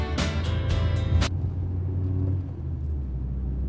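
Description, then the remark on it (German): Steady low engine rumble of a car heard from inside the cabin, briefly louder and brighter in the first second as if revving, then settling into an even, continuous drone. “Rumfahren. Waren wir schon in Frankfurt?”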